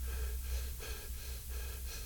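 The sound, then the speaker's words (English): A few quick, shallow breaths drawn in and pushed out, fairly soft, over a steady low hum with no talking. “We just take it a little, let out.”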